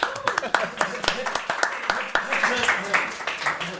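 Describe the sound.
A crowd applauds with a steady patter of overlapping claps lasting several seconds, while voices talk and call out over the clapping, welcoming a speaker being introduced at the start of the day's gathering.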